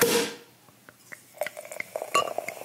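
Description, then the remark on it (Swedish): Someone sips from a glass: a soft breathy rush, then a scatter of faint wet clicks and a couple of light glassy clinks, with no talking. “Så tar jag en klunk efter det.”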